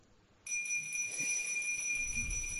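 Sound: handbell ringing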